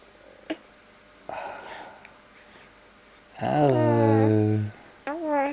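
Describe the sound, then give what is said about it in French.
A baby coos and gurgles: a breathy rustle, then a long drawn-out voiced babble with a falling pitch, and a shorter gurgling sound just after. “Il fait des gouillou gouillou.”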